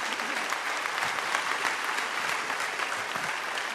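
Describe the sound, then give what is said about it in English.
Steady applause from a sizable audience, dense and continuous clapping filling the space for several seconds at a moderate, even level with no voices standing out. “Go ahead and clap for that.”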